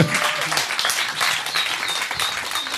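An audience applauds steadily, a dense wash of many hands clapping at once with no pauses, holding an even, fairly loud level throughout.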